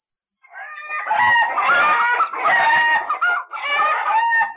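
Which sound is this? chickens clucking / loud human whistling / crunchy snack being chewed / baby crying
chickens clucking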